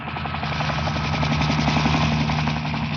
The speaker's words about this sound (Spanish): El helicóptero bruscamente se eleva con agilidad.